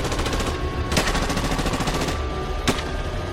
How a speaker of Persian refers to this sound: صدای تیراندازی شدید و شدیدتر میشد.